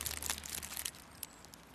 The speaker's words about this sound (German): Frau und Hund schmatzen genüsslich und machen eine Pause.